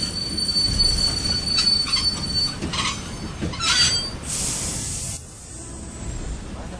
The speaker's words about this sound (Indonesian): Saya dalam perjalanan bisnis naik kereta ekspres Jakarta-Jogja saat kereta tiba-tiba berhenti.